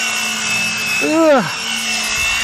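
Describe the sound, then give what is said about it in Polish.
An electric ice scraper buzzes steadily and loudly, a constant motorized whine with a brief swooping tone near the middle as it scrapes thin frost from glass. “Widać, że ten cieniutki szronik dzisiaj skrobie dobrze. Tylko jest jeden problem. Jest strasznie głośna.”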